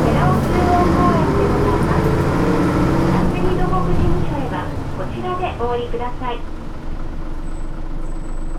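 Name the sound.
city bus driving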